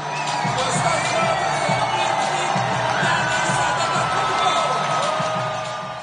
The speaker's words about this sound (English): and that means the starting lineup for the home team is being introduced in the language of Plato and Aristotle. The loudest applause is for Giannis, born and raised in Greece, or as the announcer calls it, Elada.